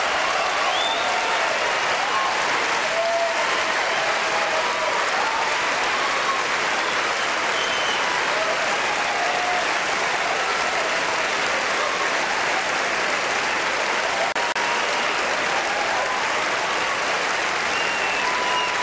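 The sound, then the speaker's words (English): A large audience at the 2003 Oscars, Meryl Streep among them, applauds steadily and loudly for nearly twenty seconds as Roman Polanski wins for The Pianist, a dense unbroken wash of clapping with occasional cheers and whoops rising above it. “You can see her right there in the background cheering for Roman Polanski.”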